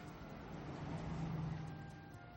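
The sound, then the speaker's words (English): A car that has just pulled up outside idles with a low, steady rumble, heard faintly, over a constant hiss of background noise with no clear arrival or stop. “Listen, a major blonde and a major car just pulled up.”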